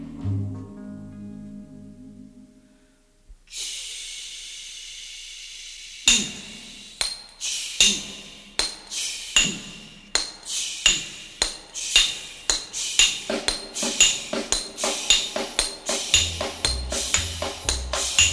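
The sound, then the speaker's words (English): Hammers strike steel spikes again and again in a steady, quickening rhythm, each blow a sharp, ringing metallic clang, preceded by a low hum and a sustained bright ring. “Listen to hammer swingers talking to you.”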